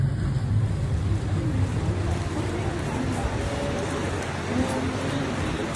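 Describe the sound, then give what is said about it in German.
A ferry boat's engine drones with a steady, deep rumble as water rushes and churns alongside during a roughly 40-minute crossing to Hormuz Island, one continuous, fairly loud wash of noise that never lets up. “Nach ungefähr 40 Minuten mit der Fähre erreichen wir die Insel Hormuz.”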